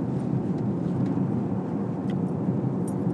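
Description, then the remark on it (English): A steady, low rumble of road traffic in the Irish countryside, with three cars going by, one coming towards and two going away, holding an even loudness throughout with no distinct single pass and no voices. “I see three cars, one coming towards me, two going away from me.”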